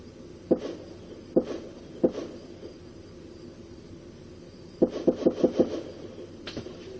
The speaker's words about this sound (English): And that's it. So those are the first 9 shots. And if I'd gone another couple seconds, we would have heard the 10th shot coming in.